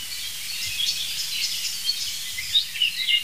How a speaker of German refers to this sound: Und auf jeden Fall jetzt eine sich aufregende Amsel, die wirklich empört ist, muss ich sagen.